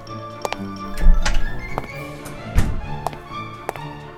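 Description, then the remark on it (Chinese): Footsteps of a person about to open a door and come in thud and tap across a hard floor at an uneven pace, with a couple of heavier knocks along the way, with no one speaking. “两只老鼠正准备要享受美食的时候，突然传来一阵脚步声，有个人正要开门进来。”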